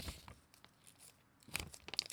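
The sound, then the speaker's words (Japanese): Origami paper being folded and crinkled, with soft scattered crackles and rustles that grow into a sharper burst of crinkling near the end. Quiet, with no voices. “折り紙の音聞いてる？”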